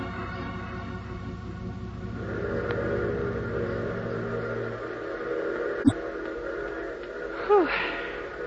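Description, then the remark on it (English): A train arrives in fog with a long, steady whistle over a low mechanical drone, then comes a sharp clank and a brief rising whistle tone as it pulls in. “Well, at least the train seems to be on time.”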